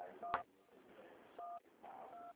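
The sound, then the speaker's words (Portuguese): Three telephone keypad tones from buttons pressed by a caller during a phone call sound over a thin phone line: a short beep with a click, then two longer, steady dual-pitched beeps, with faint line hiss in the gaps. “o senhor está apertando o telefone, eu não estou conseguindo te ouvir.”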